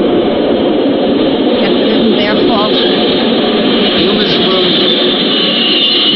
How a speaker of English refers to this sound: Oh, I hope this train doesn't wake him up. They make an awful lot of noise. Well, this isn't a nursery. It's a subway station.